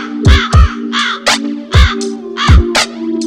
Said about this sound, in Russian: Над лужей крови ворон закаркал, блять.